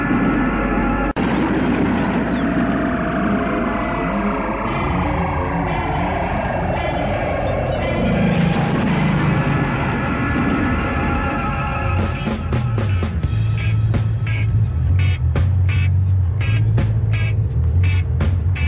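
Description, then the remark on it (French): A car engine drives along a road, a steady loud rumble with the pitch sweeping as it revs and shifts, then settling into a lower hum with some rattling clicks toward the end. “Mais docteur, mais pourquoi est-ce que vous laissez conduire votre neveu?”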